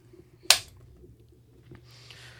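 A single sharp hand clap rings out loud, used as a recording sync marker, then fades quickly with a faint hiss afterward.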